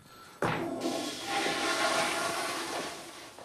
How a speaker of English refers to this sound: Later, the six guys are in a police cell. Sonny uses the toilet in the corner and kicks the flush.